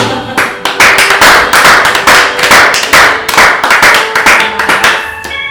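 An audience breaks into loud, sustained applause, with many hands clapping in a dense, steady patter for several seconds and no voices heard over it.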